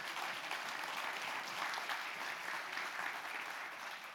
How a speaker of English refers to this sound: Because, again, we want to, yeah, you can clap.